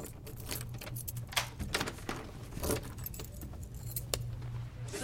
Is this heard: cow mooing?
no